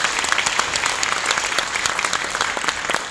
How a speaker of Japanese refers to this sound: 私たちも本当に一緒に戦う決意を込めてもう一度大きな拍手をお願いいたします。